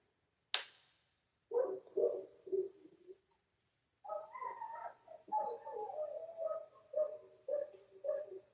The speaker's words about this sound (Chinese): 我们家狗在那叫了